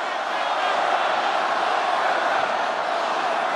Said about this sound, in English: The crowd starts yelling, "Lock her up."